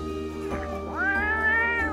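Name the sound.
cat meowing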